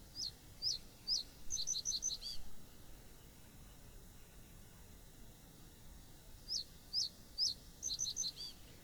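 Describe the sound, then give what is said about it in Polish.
Two song phrases of a common reed bunting, each a few spaced, high metallic whistles that quicken into a brief rapid cluster, clear over a faint low background hiss with a pause between. “Śpiew potrzosa składa się z kilku wysokich, metalicznych gwizdów.”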